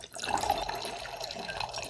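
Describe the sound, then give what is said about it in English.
Liquid pours steadily into a glass for about two seconds, a continuous splashing gurgle at moderate volume with no voices. “Fill up the glass again.”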